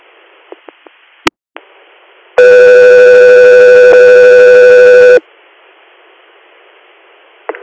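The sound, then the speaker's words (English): Dispatch radio paging alert tones for an air unit's scene standby in Susquehanna County: a loud, steady electronic tone with rich harmonics blares for about three seconds over a hissy radio channel, preceded by a few clicks and a sharp squelch pop. “Echo 3, you're standing by for tones.”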